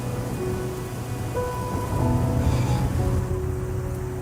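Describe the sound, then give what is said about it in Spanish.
Torrential rain pours down on a mountain during the day in a steady, dense roar that stays loud and unbroken throughout, with a deep low rumble underneath and no voices. “Otra noche sin dormir da paso a otro día de lluvia torrencial.”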